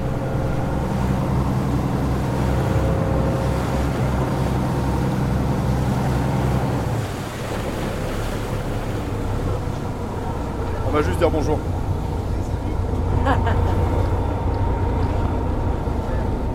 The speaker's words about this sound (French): Le bateau, quoi.